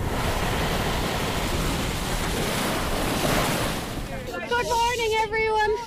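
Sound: wind and waves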